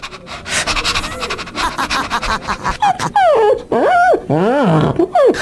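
A five-year-old dog pants rapidly in short breathy bursts, then lets out several high, wavering whimpers and whines, fairly loud with no one talking.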